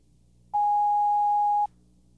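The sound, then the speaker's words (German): A telephone rings once with a single steady electronic tone lasting about a second, loud, then cuts off into quiet. No one speaks. “Das Telefon läutete.”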